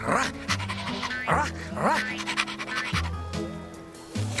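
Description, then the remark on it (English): A dog pants in quick, rhythmic huffs, with a few short whiny yelps mixed in, over a steady low tonal background hum. “Hey, where's my favorite puppy dog, Mac?”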